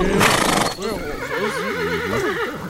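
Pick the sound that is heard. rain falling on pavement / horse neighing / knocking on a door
horse neighing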